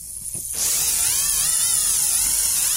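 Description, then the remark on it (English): Loud, steady radio static bursts in after a quieter moment and hisses on continuously, with a wavering, warbling buzz running through the noise, heard while waiting for the radio to clear for an update. No one speaks. “Why do we have to listen to that static, William Crisp?”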